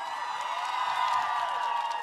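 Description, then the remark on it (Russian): A concert crowd applauds and cheers in a steady, dense wash of clapping with high whoops and shouts riding on top, holding loud and even for about two seconds. “Аплодисменты громче!”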